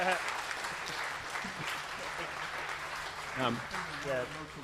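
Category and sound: crowd, audience cheering and applause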